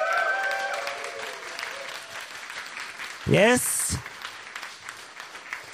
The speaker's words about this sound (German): möchte ich euch einmal als Publikum bitten, so Comedy-mäßig, da komme ich ja her, ganz doll zu applaudieren. Vielleicht hören das jetzt die Gäste, dass hier noch andere Identitäten nämlich im Publikum sitzen. Kommt für euch mal einmal euer Applaus.